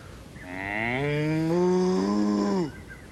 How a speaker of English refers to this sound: Yep. Cow. Huh? Cow. Cow. Cow. Cow.